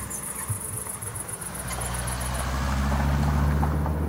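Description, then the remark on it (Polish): A car's engine rumbles low and grows steadily louder as it drives into a cornfield, while rapid cricket chirps pulse high above during the first half. “O, wjedzie taki samochód między kukurydzę i niknie niemal od razu.”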